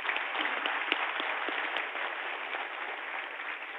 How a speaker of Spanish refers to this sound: Un aplauso.